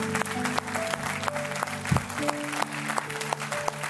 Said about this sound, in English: Come on. Let's give the Lord a big clap today. Come on.